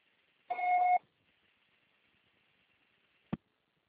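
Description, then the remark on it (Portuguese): A single steady voicemail beep lasting about half a second, a clear mid-pitched electronic tone, followed by faint line hiss and one sharp click near the end. “O processador será tarifado após o sinal.”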